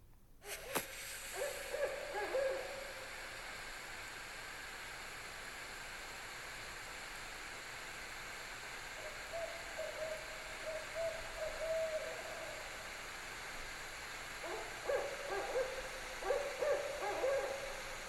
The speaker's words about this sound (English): it may sound like an owl to you, but I'm telling you, it was like a dog or a wolf